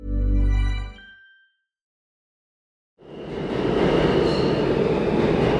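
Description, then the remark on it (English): A short tonal hum fades into about a second and a half of silence, then a New York City subway train's loud, steady rumble and rattle rolls in and keeps going, with no voices. “Ah, the sounds, the sights, the smells of New York City's subway.”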